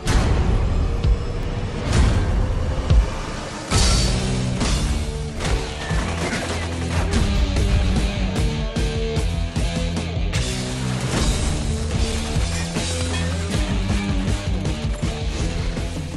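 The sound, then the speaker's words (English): Loud, dense audio from the Iron Man movie trailer: booming explosions and crashing impacts burst over a driving orchestral score, with sharp hits recurring throughout and no voices. “That was just more noise and explosions.”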